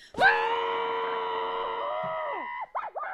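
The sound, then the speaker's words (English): A long, sustained scream into a pillow, held steady for over two seconds, loud but dulled and muffled, then breaking into a few wavering, gasping vocal bursts at the end. “It's time for Screaming Into a Pillow.”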